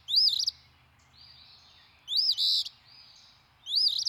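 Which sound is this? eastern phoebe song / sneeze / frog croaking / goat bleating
eastern phoebe song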